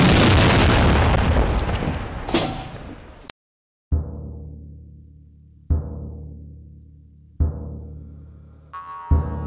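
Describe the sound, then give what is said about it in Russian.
Cannon fire: a long roaring blast, a brief silence, then four heavy booms at steady intervals, each a sharp low thud trailing off into rumble. No voices. “Во имя Господа, огонь!”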